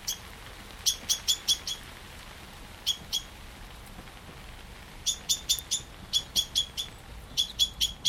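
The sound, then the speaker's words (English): A female blackbird chirps in a garden in quick bursts of sharp, high-pitched notes, several clusters of three to five calls each, standing out clearly over a soft background hiss with no talking. “That was Mrs. Blackbird.”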